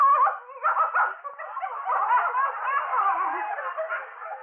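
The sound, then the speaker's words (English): A small dog named Edwina whines and yaps, a steady run of high-pitched whimpers and short barks lasting several seconds with no one talking. “If Edwin even suspected a dog was in the apartment...”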